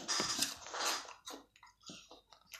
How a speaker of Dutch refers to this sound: Pingu zat iets te eten. Wat hoor je? Wat is ze aan het eten? En het antwoord is een appel.